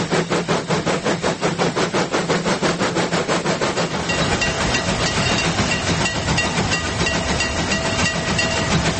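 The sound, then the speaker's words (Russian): A model train rumbles steadily along its track, with rapid rhythmic clatter in the first half giving way to a denser, hissing roar up close, sounding like trains at a real railway station; no voices. “Вблизи модельной дороги грохот поездов такой же, как и на настоящей железнодорожной станции.”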